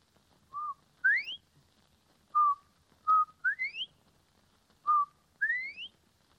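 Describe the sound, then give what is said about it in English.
A human whistle imitating a bobwhite: three clear two-note calls, each a short level note followed by a sharply rising slur, evenly spaced, fairly loud, with no talking. “you are going to whistle. Do you mind if, shall I read? Your first imitation is Bob White”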